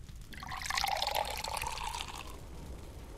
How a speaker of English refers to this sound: And then, we can both carry pails of warm water to the bathtub.